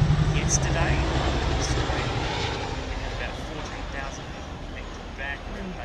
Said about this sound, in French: Oh, encore un hélicoptère, écoutez. Il y a un hélicoptère qui survole la ville. Parce qu'il y a beaucoup de fumée.